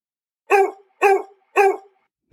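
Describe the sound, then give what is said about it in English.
A dog barks three times in a steady, evenly spaced rhythm, each bark loud and harmonically rich, with brief silence between them and no talking. “That's dog speak for Did You Know?”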